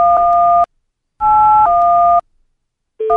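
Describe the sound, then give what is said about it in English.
Telephone call waiting beeps: loud, steady electronic two-tone bursts, one shifting pitch midway, separated by short silences, with no voices. “That's one of those, like, call waiting beeps.”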